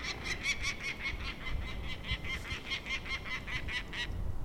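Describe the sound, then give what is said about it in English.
A male peregrine falcon yells at a raven with a rapid series of harsh, scolding cack notes, over a dozen in steady rhythm, with low wind rumble underneath. “That's a male yelling at the raven.”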